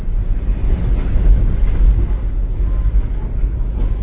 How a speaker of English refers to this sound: The train is moving now, and I'm checking out the other rooms.